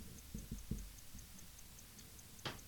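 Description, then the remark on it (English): A watch's analog utility watch face, woken by pressing the home button, gives off faint, quick, evenly spaced digital ticks that run steadily throughout, with a few soft low thumps early on and a brief rustling burst near the end. “the really cool little feature on how the analog utility watch face has the sound of a ticking watch on it.”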